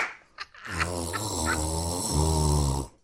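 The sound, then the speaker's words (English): A person vocally imitates a man loudly blowing his nose at the communal tables of the Furious Spoon restaurant: a single buzzy, low-pitched honk lasting about two seconds, with a slight dip in pitch partway through, then an abrupt stop. “And the dude next to us just air horned it right in front of us. Just honk.”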